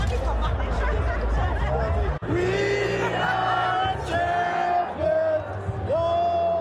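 A loud crowd celebrating a victory shouts, chants and cheers continuously, with high rising whoops and sustained yells standing out over dense babble, briefly dropping away for an instant before surging back.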